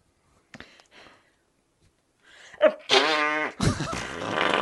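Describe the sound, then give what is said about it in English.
A few soft sputters give way to a loud, drawn-out comedic fart sound effect with a rippling, buzzy tone, ending in a long noisy blast. No one speaks. “Well, I will accept it if you give me another fart blank.”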